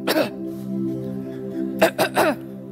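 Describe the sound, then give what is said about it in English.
A fairly loud single throaty cough, followed after a brief voiced pause by three quick coughs in a row, like someone clearing their throat. “And then, you know, the Holy Spirit's cough.”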